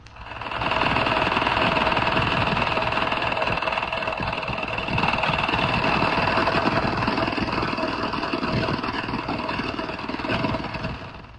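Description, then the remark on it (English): An acoustic minesweeper's very strong underwater signal, which can be heard at ranges up to 20 miles: a steady, rattling mechanical drone with a harsh buzzing texture and sustained tonal hum, holding constant for about eleven seconds with no voices. “An acoustic minesweeper sends out a very strong signal, which can be heard at ranges up to 20 miles.”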